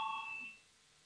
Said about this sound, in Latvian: Lūdzu zvanu, balsosim par 97. varam ministra Pūces priekšlikumu.